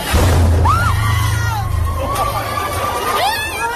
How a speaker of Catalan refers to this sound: I al Japó, atenció a l'ensurt aquesta matinada, després que una explosió al port de Wakayama, a l'oest del país, ha obligat a evacuar el primer ministre Fumio Kishida, que hi estava fent un discurs. Aquest era el moment.